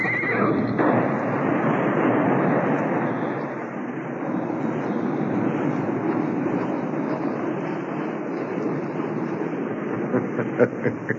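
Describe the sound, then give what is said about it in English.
Horses gallop hard along a trail on a steep riverbank, a dense rumble of hooves running continuously, with loud whinnies and neighing breaking through the commotion near the start. “Before they knew it, the galloping horses tripped on the rope.”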